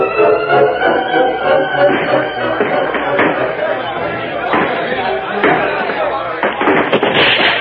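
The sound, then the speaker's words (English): Scattered sharp gunshots from a shootout at a building crack out of a noisy crowd scene, a few isolated bangs at first, then a faster cluster of shots near the end, with excited voices clamoring underneath. “If gunfire won't do it, those torches will.”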